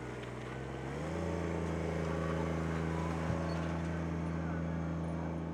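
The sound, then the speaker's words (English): A tractor engine at Melvin Park in Juneau, used to help people dump sand into bags during flooding, drones steadily, its pitch climbing as it revs up after a second and then holding a loud, even rumble throughout. “At Melvin Park, City and Borough of Juneau Emergency Programs Manager Tom Matisse was using a tractor to help people dump sand into bags.”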